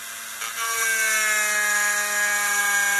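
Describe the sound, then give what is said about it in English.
A power drill whines steadily as it bores carefully about a sixteenth of an inch into a valuable tortoise's shell, its motor pitch sagging slightly under load alongside a gritty grinding hiss for about three seconds, with no talking. “So he's going just that very carefully, 16th of an inch into the shell.”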